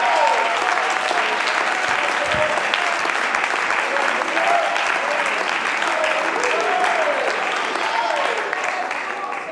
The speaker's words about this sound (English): Oh, let's clap our hands.